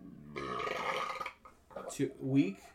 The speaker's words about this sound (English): Please edit the belch out.